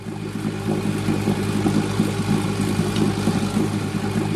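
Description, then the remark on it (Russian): A motorboat engine drones steadily as the boat cuts across open blue water, a low throbbing hum with a rough, even pulse, fairly loud, running continuously with no speech. “Они уже около часа ехали на катере, разрезая бескрайнюю синюю воду.”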